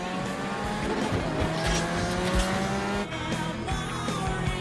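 A powerful motorised vehicle engine roars loudly and steadily at high speed along a road, with tires squealing as it stops and turns round, then races back along the road, the whole pass continuous, with no voices.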